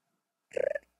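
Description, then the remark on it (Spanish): A person imitates a pigeon's coo with a low, throaty, pulsing warble lasting about a third of a second, rapid fluttering beats, then fades; a faint breath follows. “¿Sonido que hacen las palomas?”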